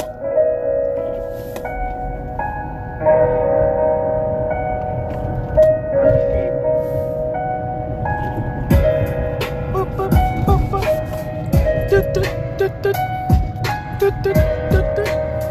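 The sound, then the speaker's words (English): A hip-hop instrumental beat plays at a steady, fairly loud level: sustained melodic synth tones over a low bass rumble, with crisp percussive hits joining about halfway through. “But these beats been going hard so far.”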